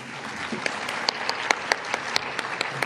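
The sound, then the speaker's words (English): Audience applause at a council meeting after a list of names is read, a steady wash of clapping from a sizable crowd with a few sharper, louder claps standing out, moderately loud, with no talking. “You can applaud now.”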